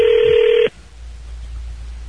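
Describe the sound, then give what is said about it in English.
A loud telephone keypad tone sounds for just over half a second as someone dials a phone, then cuts off abruptly, leaving only a faint, low line hum. No one speaks. “All right, let me try Terry.”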